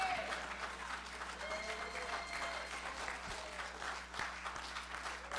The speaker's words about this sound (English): If you believe that, take 10 seconds, clap your hands, and shout unto God.